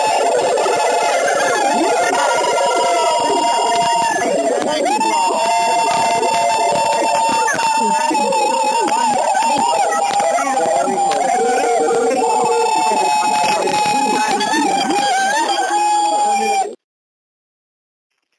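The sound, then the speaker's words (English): A loud, chaotic jumble of many callers screaming and whooping at once over phone lines as the lines are unmuted, a dense wall of overlapping voices that runs steadily for about seventeen seconds before cutting off abruptly. “And if you're excited to be an emancipator here on this marvelous, magnificent Monday, I want to hear you screaming to the phone as I unmute the lines right now.”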